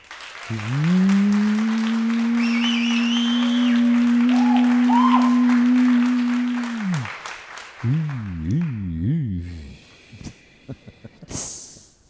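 Crowd applause, dense and steady for about nine seconds, overlaid by a loud sustained droning tone that turns into a wavering, wobbling tone before the clapping thins out.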